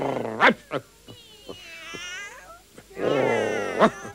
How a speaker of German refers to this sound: Hilfe! Am Gartenzaun hocken mindestens 100 Katzen.